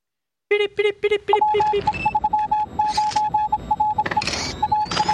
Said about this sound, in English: Those beeps actually say something. That's real Morse code you're hearing there.